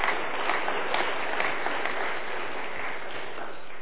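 An audience applauding together, a dense, steady wash of many hands clapping at an even level throughout, with no voices rising above it.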